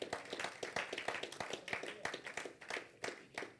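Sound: audience clapping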